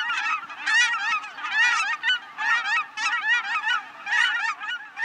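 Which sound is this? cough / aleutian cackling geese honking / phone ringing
aleutian cackling geese honking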